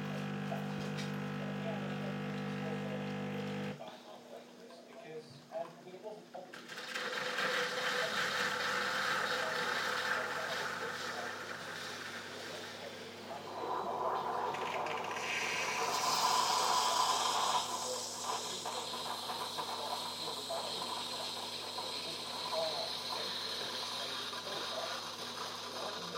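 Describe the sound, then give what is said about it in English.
A Tassimo capsule coffee machine brews, a steady mechanical pump hum and rattle giving way to a louder, rising hiss of steam partway through, with no voices. “Hurry up, Tassimo. Just hurry up now.”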